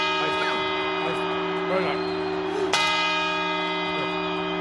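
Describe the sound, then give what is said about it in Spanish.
Church bells ring out with long, sustained tones on 31 December in the Ocastrillón neighbourhood of Coruña, chiming for an early New Year's grape-eating celebration; a fresh strike lands partway through, layered over the lingering hum of earlier chimes. Faint crowd murmur sits underneath. “Cada media hora suenan las campanadas e invitan a los vecinos a comer las uvas.”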